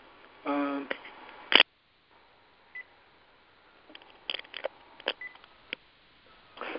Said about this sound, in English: I need to switch phones here real quick. Should be seamless. Hold on.